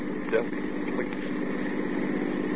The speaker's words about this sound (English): Is that a car coming? Looks like a truck.